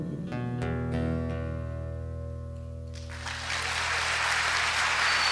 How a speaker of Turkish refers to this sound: … için çok büyük bir alkış.